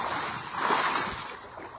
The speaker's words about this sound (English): In fact, our USB crack news team was right on site and caught the sound of the spacecraft hitting the water.